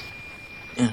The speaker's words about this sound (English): I'm going to raise the volume so that you can hear what the satellite sounds like. Okay, this is the noise of the actual satellite.